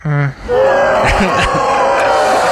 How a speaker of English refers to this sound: Yeah, okay. They're booing you